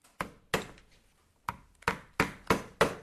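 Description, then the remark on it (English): Sharp hammer blows on leather and nails as a riding boot is made by hand with hammer and nail downstairs, about seven strikes in an uneven rhythm with a pause in the middle, fairly loud, each a dull knock with a quick decay. “showed me how he was making a riding boot downstairs with a hammer and nail.”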